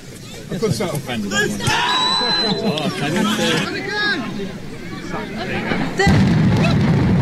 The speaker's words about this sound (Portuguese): Aqui está. Oi, credo. Nada assustador esta explosão assim no meio de um jogo, não é?